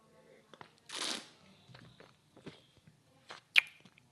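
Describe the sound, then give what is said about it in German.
Wet mouth sounds of someone tasting Muskateller wine: a few short smacks and clicks, a brief slurping burst, and a sharp smack near the end, quiet and irregular with no talking. “Yo, ich hoffe, das Schmatzen stört euch nicht.”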